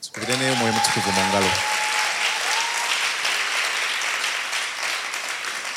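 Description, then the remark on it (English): A church audience breaks into steady, sustained applause for themselves and the Holy Spirit, a dense wash of clapping that holds loud for several seconds, with a voice calling out over it at the start. “And can we clap to the Holy Spirit?”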